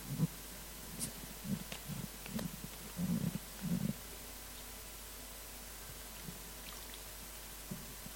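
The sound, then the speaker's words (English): Someone drinks water, a series of soft, low gulping swallows over a few seconds, then near-silence with only faint room noise. No one speaks. “let me just get some water if that's all right.”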